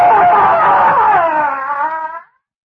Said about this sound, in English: I heard him scream, too.